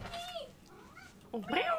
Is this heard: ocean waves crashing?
no